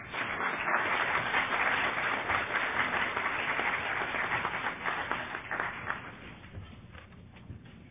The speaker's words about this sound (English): Let's hear another round of applause. Wonderful, wonderful shares.